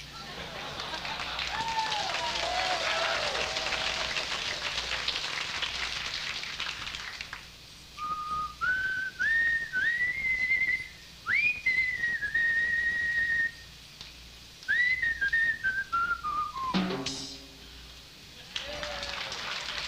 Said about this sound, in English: and he whistled a little tune. It went like this.